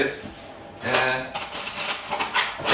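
Tomato sauce simmering in a pot: a steady, hissing bubble with crackly bursts, mixed with light clinks of pots and utensils and a brief murmur of a voice.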